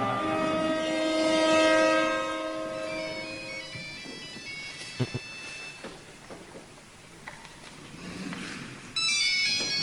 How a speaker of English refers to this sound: Well, this is a classical music recital. Some douche leaves their phone on. Oh, no. The violin player handles it in perhaps the best way possible.